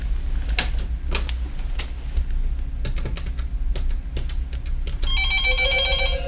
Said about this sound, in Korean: 전화가 왔고요. 전화를 들었습니다.